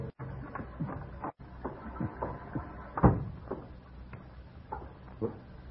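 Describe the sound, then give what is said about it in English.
George's key rattles and clicks in the lock of the house after his car pulls into the drive, followed by a sharper clunk as the latch gives and the door opens, with a few softer scrapes and knocks after. No one speaks. “The headlights flashed through the windows as the car turned into the drive and a moment later I heard his key in the lock.”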